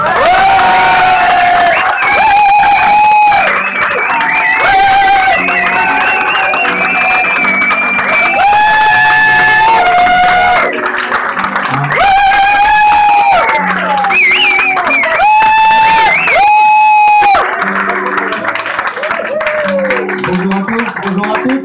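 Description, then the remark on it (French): A large audience at a goguette song gathering applauds twice as loud for performers appearing for the first time, cheering and clapping without pause, high whoops and shouts rising over a dense wash of applause that stays strong throughout. “On applaudit deux fois plus fort”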